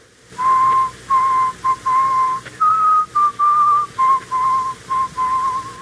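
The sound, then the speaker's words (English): A man whistles the slow, solemn funeral march melody, sustained notes in measured phrases with brief pauses between them, the pitch stepping gently up and back down, with no talking. “He whistles most of the time. And you know what he whistles? The funeral march.”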